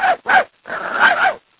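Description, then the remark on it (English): A person imitates a puppy whimpering: two short whiny yelps followed by a longer, wavering whine, fairly loud, with no other sounds. “And maybe like the puppy, you know.”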